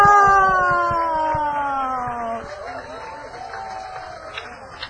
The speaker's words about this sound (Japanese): もう一度大きな拍手を。